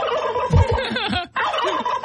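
turkey gobbling

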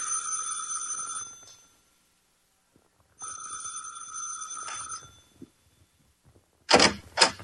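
doorbell ringing

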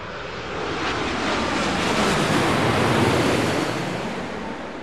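ocean waves

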